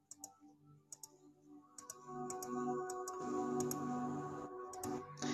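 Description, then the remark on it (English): Calculator buttons are pressed in a series of sharp clicks, some single and some in quick pairs, spaced irregularly over a steady low background hum, as numbers are added up on the calculator. “I'm clicking.”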